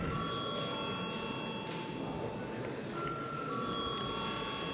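A continuous electric parliament voting bell rings steadily for several seconds before a vote. It makes an even, buzzing metallic tone with bright high overtones and no pauses, with no talk over it.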